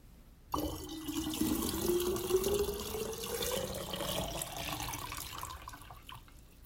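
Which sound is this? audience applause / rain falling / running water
running water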